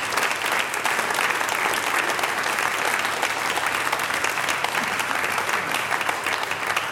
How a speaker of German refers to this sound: Und du bekommst noch meinen großen Applaus vom Kultur- und Stadtmarketing in Voitsberg.